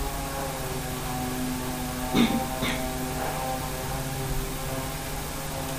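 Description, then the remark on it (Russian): A power saw drones steadily throughout, a buzzing motor hum with a few brief, harsher bursts in the middle as it bites in. No one speaks. “Это просто звуки, звук пилы.”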